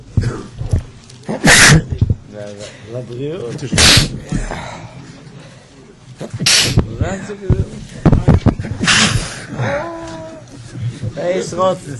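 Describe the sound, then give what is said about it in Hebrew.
Several sharp, explosive sneezes, about four, burst out loudly a couple of seconds apart, with people talking in between them. “לבריאות.”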